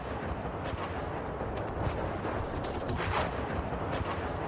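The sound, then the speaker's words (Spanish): A sustained roar of explosive noise from an explosion about 80 kilometres from Kharkiv, near the border, dense and rumbling throughout, with a few sharper cracks breaking through near the middle. No voices can be heard. “La explosión fue esta.”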